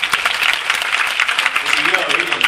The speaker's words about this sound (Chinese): 可是各位可能为了人生的机会，为了梦想，把这个本来要休闲的时间来评估考察这样的一个事，我们再给自己一个掌声，好不好？